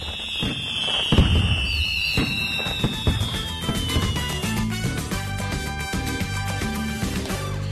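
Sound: firecrackers exploding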